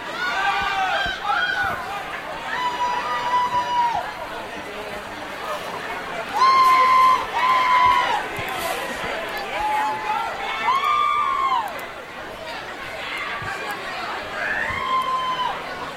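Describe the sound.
A dense, chaotic Black Friday shopping crowd at Walmart during a pepper spray incident: overlapping voices with repeated high-pitched shouts and yells rising above a constant roar of babble, loud throughout with several sharper outbursts.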